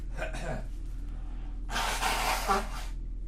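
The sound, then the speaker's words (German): A quick sniff or breath, then one long, forceful nose blow: a loud, rushing, noisy burst lasting over a second. “Ich muss mal ganz kurz die Nase putzen, Moment.”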